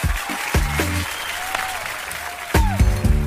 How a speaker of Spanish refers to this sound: Aplauso de nuevo para los funcionarios, trabajadores, autoridades y toda la gente que hace posible, las familias, los donantes.